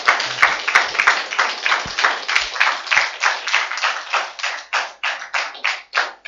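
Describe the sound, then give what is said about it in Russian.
A crowd applauds steadily in a rhythmic beat as the first Advent candle, the candle of prophecy or hope, is lit, the loud clapping gradually thinning into fewer, more separate claps toward the end. No one speaks. “Я думаю, здесь должны быть бурные аплодисменты.”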